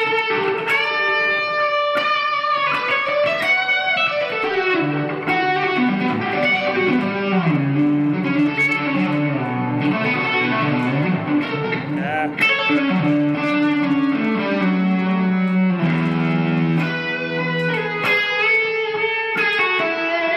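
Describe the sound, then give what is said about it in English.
A heavily saturated electric guitar plays sustained, singing notes and bending melodic lines, with echo trailing each phrase. It's loud and continuous throughout, with no talking. “And then, so I'll dial up this kind of tone where there's a lot of saturation, you know, and it just, you know.”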